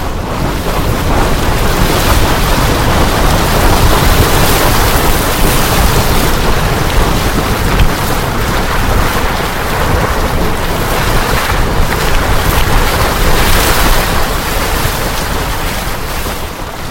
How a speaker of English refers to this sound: Right now, the geyser tube is slowly filling. You can see that the water is almost to the top of the vent.